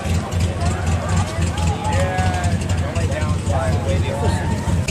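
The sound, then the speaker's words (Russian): A 1941 car's engine rumbles steadily as it drives under its own power slowly into a parking lot at a charity event, a low, throaty drone lasting throughout, with murmuring voices of a crowd in the background. “посмотри, как машина заезжает на парковку, они своим ходом приезжают.”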